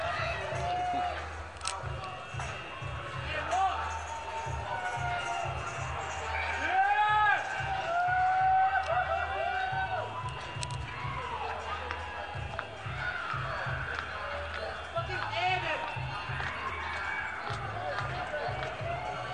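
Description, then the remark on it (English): A crowd shouts and cheers continuously while high, wavering squeals of squeaky bicycle brakes cut through several times as Critical Mass cyclists fishtail down the hairpin turns of the world's second crookedest street in San Francisco. The loudest squeal comes about a third of the way in, over a steady low rumble. “They're fishtailing, there's squeaky brakes, people screaming and yelling.”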